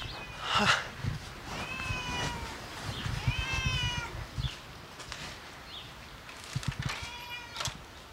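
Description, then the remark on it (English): A black cat named Midnight meows several times at a clubhouse, drawn-out, rising and falling calls separated by short pauses, with some soft rustling and background noise between them. “As we walked up to the clubhouse, a black cat named Midnight came up and rubbed against my legs.”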